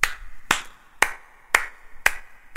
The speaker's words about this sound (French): Cet applaudissement avec un petit peu d'écho me fait chaud au cœur.